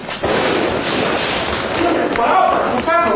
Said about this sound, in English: He dropped his walkie-talkie.